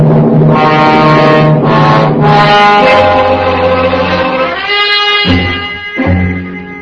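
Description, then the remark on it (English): Police cars arrive with loud, blaring horn-like sirens wailing continuously for several seconds, their overlapping tones shifting in pitch before briefly cutting out and returning, with no voices. “And then I waited for the squad cars.”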